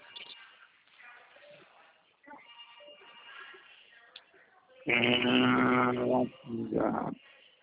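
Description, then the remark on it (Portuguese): A phone rings with an incoming WhatsApp call tone, a loud, bright melodic burst after several seconds of softer murmuring, then a shorter second ring that cuts off. “Tá lá no WhatsApp. Está aqui. Foi uma ligação.”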